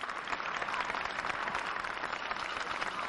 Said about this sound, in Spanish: No sé si escucháis de fondo esa banda de Jesús Nazareno de Parla tocando el himno de España. Acaba de salir y los aplausos del público.